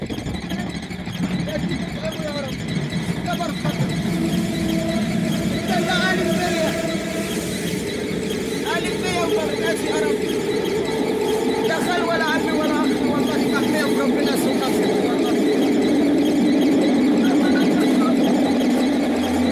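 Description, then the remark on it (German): A subway train rumbles along steadily while its wheels squeal in shrill, wavering high tones that rise and fall throughout, with faint voices murmuring beneath the constant roar. “Eine andere Frau in der U-Bahn.”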